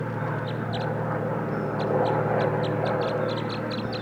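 wild birds chittering

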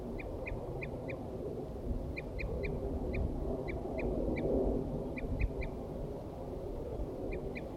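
wild birds calling

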